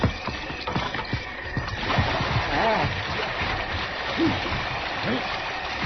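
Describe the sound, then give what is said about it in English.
Mules and horses wade and splash through flowing, freezing river water, a steady rush of churning water with uneven sloshing bursts, while voices murmur underneath. “Ride into the water, Marshal. Grab the lead mule's halter and get him straight.”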